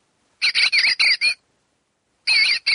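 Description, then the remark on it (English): A recorded bird call, one of 8 North American bird sounds, plays from a ceramic novelty talking mug when it is picked up off the table: a quick run of five loud, squawky chirps, a pause of about a second, then another harsh call, clear with no talking. “It does 8 different authentic North American bird sounds.”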